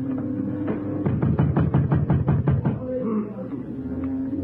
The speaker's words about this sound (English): Then I heard them try the door.